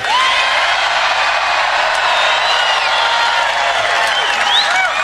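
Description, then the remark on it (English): A large crowd cheers wildly as Nigel Farage is introduced at an evening event in Mississippi, with steady loud applause, whoops and shouts sustained throughout without a break. “And the crowd goes wild.”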